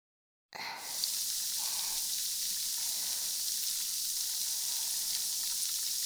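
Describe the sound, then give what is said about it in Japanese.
Carbonated water is poured near the listener's ear and then fizzes steadily, a dense crackling hiss of countless tiny bubbles popping that starts abruptly and holds at an even level, with no voices. “最後は炭酸水をお耳の近くで注いであげます。”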